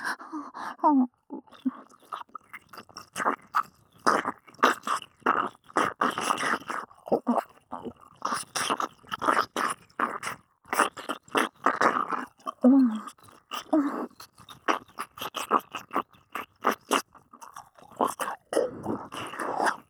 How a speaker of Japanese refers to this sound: なんて顔してんだよ。耳舐めただけなのにそんな色顔しちゃってさ。